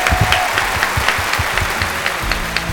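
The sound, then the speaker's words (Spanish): Steady applause from a studio audience celebrating Levante's promotion to the first division, many hands clapping at once in a dense, continuous wash with sharper individual claps popping out, moderately loud, no one speaking. “Felicidades, el Levante a primera, por fin, un gran aplauso, por favor.”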